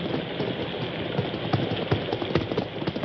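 Several hoof clops sound at an uneven walking pace as horses, including Silver and Victor, step slowly into a barn during a storm, beneath a steady, heavy hiss like pouring rain. No voices are heard.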